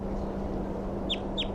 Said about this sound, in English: There's a crossbill back here now at the nest. Gave loud flight calls. Just one bird.